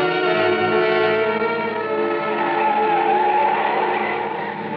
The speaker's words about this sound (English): Then we came on the landslide. It wasn't a big one, but it made a terrible mess of the road. He didn't slow down, and the car swerved crazily as it slipped from one side of the highway to the other.